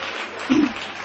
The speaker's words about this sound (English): I see that the wives are clapping.